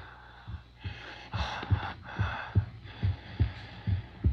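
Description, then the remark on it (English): Heavy, rasping breaths of a creature swell and fade over a steady, thudding heartbeat, the low pulses repeating about twice a second, fairly loud, with no talking. “It's breathing.”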